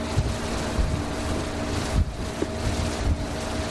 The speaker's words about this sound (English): We travel by boat to take a closer look at one of the mines.